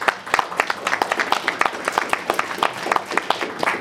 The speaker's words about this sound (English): So I just wanted to say thank you and just give a round of applause.